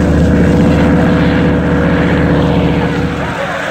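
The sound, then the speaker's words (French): A loud, steady roar of giant wind fans starting up to make a strong wind that shakes trees, a dense low mechanical drone with a propeller-like throb that holds constant and eases slightly near the end. “Des ventilateurs géants entrent à présent en action.”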